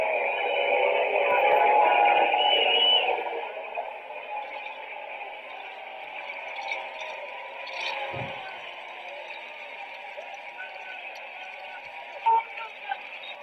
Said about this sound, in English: So let's play the NFL booing. You can hear them getting booed in their moment of silence for justice and equality.